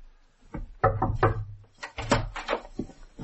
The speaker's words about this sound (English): Room 9. This be it. She said to knock and go in.